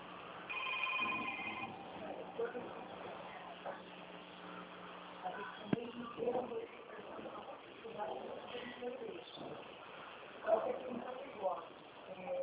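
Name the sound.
telephone ringing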